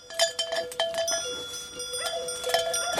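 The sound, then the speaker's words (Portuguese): Livestock bells clank and ring in a busy, irregular jangle, many metallic strikes overlapping with sustained bright tones, steady and moderately loud throughout with no voices. “Será que podemos fazer uma tendência com estes sinos para pessoas?”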